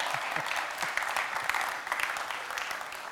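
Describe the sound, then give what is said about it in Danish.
A crowd applauds steadily, dense clapping filling the space with a bright, even rattle that holds at a moderate level throughout. “Ja, der skulle faktisk være et stort bifald lige præcis til det.”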